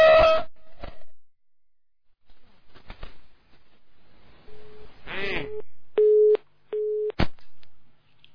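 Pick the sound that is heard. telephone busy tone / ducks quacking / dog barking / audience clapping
telephone busy tone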